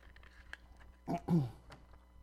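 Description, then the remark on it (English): A quiet sip of water: two short wet slurping bursts about a second in, with faint clicks and hush before and after. No one talks. “Let me take a sip of water because my mouth is a little dry.”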